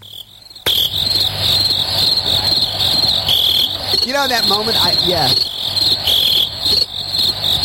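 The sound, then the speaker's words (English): A dense, steady chorus of crickets chirps loudly and continuously, a high shrill trill that starts abruptly and carries on throughout, with a short spoken phrase briefly heard over it partway through. “Those crickets are like. The cricket's like, I don't even want to chirp right now.”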